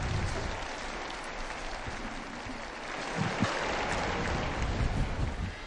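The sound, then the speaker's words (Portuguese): A large outdoor crowd applauds and cheers in a steady, dense wash of clapping as the windows of the papal apartment open and the crowd greets Pope Francis on a Sunday, with wind buffeting the microphone and a slight swell in the second half. “E agora, então, abrem-se as janelas do apartamento pontifício e a multidão saúda o Santo Padre.”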